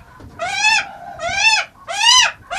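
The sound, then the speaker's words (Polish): A female hawk, wet from bathing, gives three loud, whining calls in quick succession while courting a male, each a harsh rising-and-falling cry with short pauses between, and no one speaking. “I ona się zachowuje tak właśnie teraz jako do samca. Podrywa.”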